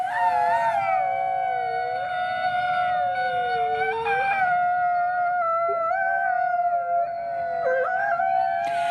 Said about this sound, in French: ou les hurlements du loup, recueillis au Centre de protection des loups, fondé par la célèbre pianiste Hélène Grimaud, qui s'est installée dans l'État de New York, où elle a enregistré ses chants de loup dans son Wolf Conservation Center.